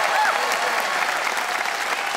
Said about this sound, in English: Audience, it is up to you to vote by applause. Who agreed with Jan that from yeast to west, sandwiches are best? Jan Caruana. Listen to that crowd. They're behind Jan.